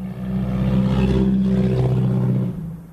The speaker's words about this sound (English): A loud car zooms down a street in the district of State Representative Jocasta Zamarripa.